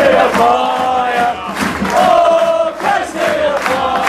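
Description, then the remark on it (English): Cambridge United fans cheer, chant Adam Cunnington's name and applaud their players off after a 2-1 home win over Northampton Town. Loud, sustained crowd voices sing in rising and falling waves for about four seconds, with a continuous roar of noise underneath. “Ewes fans rightly applauding their players off.”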